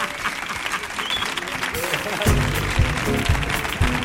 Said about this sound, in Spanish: ¡Fuerte el aplauso para Arcanillo y para Íñigo!